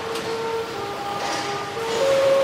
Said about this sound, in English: Welcome aboard high-speed CRH train.